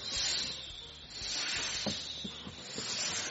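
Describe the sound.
A person imitates a snake with a long, loud, sustained hiss that lasts about three seconds and swells slightly, forced air rushing through the teeth.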